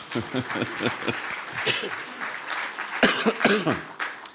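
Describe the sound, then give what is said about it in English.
An audience claps steadily, a dense patter of many hands at moderate loudness, with a few voices and a cough or chuckle mixed in, swelling briefly toward the end. “Go ahead and clap.”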